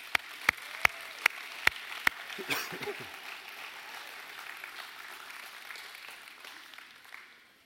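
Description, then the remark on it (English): An audience applauds as kids and youth are dismissed, starting with a few evenly spaced, sharp claps that give way to a softer, scattered patter of many hands fading out over several seconds, fairly faint. “Hey, with a big round of applause, we're going to dismiss our kids and our youth.”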